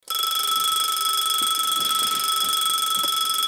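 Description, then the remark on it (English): A loud, continuous electronic alarm clock ringing steadily on a Monday morning, a shrill buzzing tone that fills the whole stretch without pause. “I turn off my alarm and go to sleep.”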